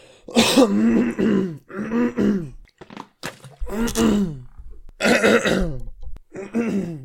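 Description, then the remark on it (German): A person repeatedly clears their throat, several rough, gravelly rasps in a row with short pauses between, loud and effortful, almost like a strained groan. “Oh, ich krieg nicht diesen satisfying Räusperer hin, Alter.”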